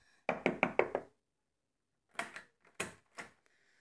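Someone knocks on the door of a house, four quick raps in a row, then a pause and three slower, spaced knocks. The knocks are sharp, with silence in between and no voices.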